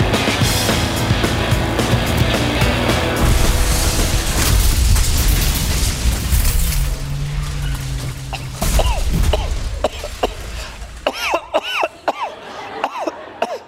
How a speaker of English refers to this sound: Hello, 911. This is Siri. Trevor was in a car crash.